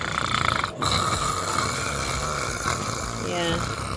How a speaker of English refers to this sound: Sawing logs, what does that mean? Like, peeling paint, friggin' just snoring so loud nobody can sleep. Nobody else can sleep in the room with him.